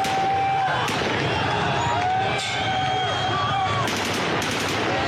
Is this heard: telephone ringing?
no